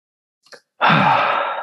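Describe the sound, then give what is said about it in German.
A short breath blown right into a microphone: a faint quick intake, then a loud, airy exhale that rushes on for under a second. No one speaks. “… atmet kurz in sein Mikro.”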